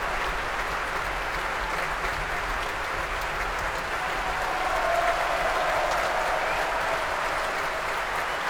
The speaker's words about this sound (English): Donald Runicles, the new chief conductor of the BBC Scottish Symphony Orchestra, coming back on for his second bow now, receiving a huge round of applause from the orchestra.